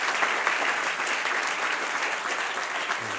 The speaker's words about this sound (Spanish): Dale otro aplauso al que reina. Amén.